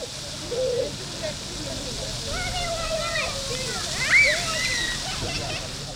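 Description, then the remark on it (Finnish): Steady splashing and sloshing water from people playing in a fountain at a beach in Pärnu, southwest Estonia, with lively voices, some speaking Finnish, and children's calls and squeals rising over it, busy throughout. “Lounaisvirolaisen Pärnun uimarannan suihkulähteessä ilakoidaan pitkästä aikaa myös suomeksi.”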